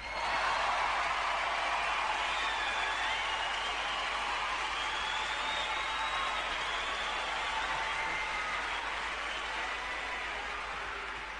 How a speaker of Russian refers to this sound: Прежде чем я начну, я хотел бы услышать аплодисменты для Buzz Boys.